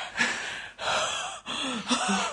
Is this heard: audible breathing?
yes